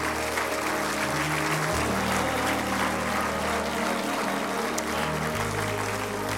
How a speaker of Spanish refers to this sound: Siga aplaudiendo.